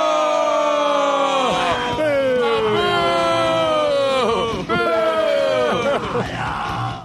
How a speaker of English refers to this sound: This is rare that I love any song yelling because it's too much noise, but that I love it.